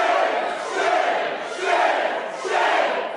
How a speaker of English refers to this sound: Shame, shame, shame. That's what they're saying. Democrats all decked out in orange T-shirts booed and chanted shame as Republicans voted to pass the budget bill.